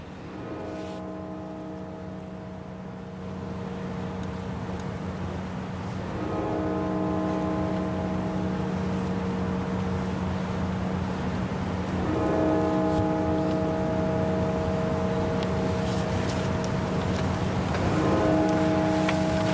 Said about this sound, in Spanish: El ataúd está en la puerta y en este momento suenan las campanas de la catedral.